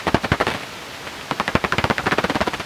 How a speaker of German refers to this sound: Wasserfledermaus, wahrscheinlich mehrere Individuen knapp über dem Wasser jagend.